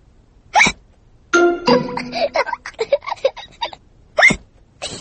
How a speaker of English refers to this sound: George drank his juice too quickly, and now he has hiccups.